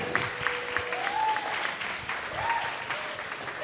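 A crowd claps steadily for several seconds, a dense, even wash of applause with no voices standing out, a few faint whistle-like tones rising briefly above it, applauding author an author after her talk about her book.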